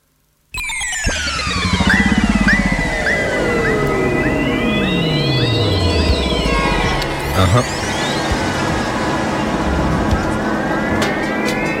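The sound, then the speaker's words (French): Blue whale song: long, eerie tones glide up and down in overlapping sweeps, loud and continuous for about eleven seconds, with a dense, droning wash beneath and no voices. “Moi, baleine bleue, c'est moi.”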